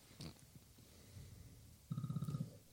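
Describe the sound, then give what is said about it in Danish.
A phone rings with a short burst of rapid, pulsing buzz, low and rattly with a thin higher tone above it, lasting about half a second after some quiet rustling. “Nu ringer vokstuen, shit.”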